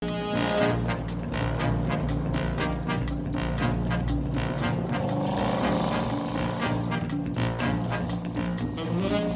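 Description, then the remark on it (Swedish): A powerful car engine roars loudly and continuously in a chase scene from the film Bullitt, with Steve McQueen driving, its revs surging and rising partway through, with no talking over it. “Och det är egentligen bara att Steve McQueen ser cool ut, kör en cool bil och så är det cool musik.”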